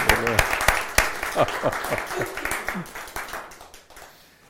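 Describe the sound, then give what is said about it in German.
A crowd gives applause for Jesus, with dense, overlapping clapping that gradually fades over a few seconds, with scattered voices and cheers mixed into the noise. “Dann lass Jesus einen Applaus geben.”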